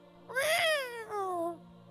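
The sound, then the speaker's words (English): A sharp cat screech in two drawn-out, wailing bursts, the first louder and rising before falling away, the second slightly softer and sliding downward, unaccompanied. “And then you hear a sharp...”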